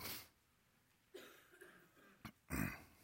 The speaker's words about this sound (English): Let me clear my throat.